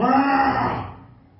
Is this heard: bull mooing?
yes